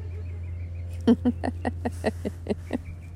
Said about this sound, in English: And today I hear an awful lot of cars. Dogs barking. A lot of bird song. There's a plane overhead somewhere. And a jay is squawking.